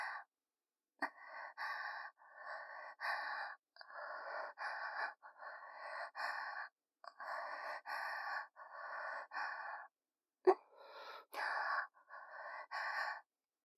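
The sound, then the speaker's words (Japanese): Heavy, close-up breathing: a steady run of about a dozen breathy exhales and inhales, each lasting roughly a second with short pauses between, intimate and fairly loud, with no talking. “私の吐息と混じり合って、お顔とお顔の間、すごく群れた空間になってます。”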